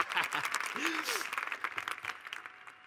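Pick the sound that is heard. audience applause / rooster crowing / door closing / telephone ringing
audience applause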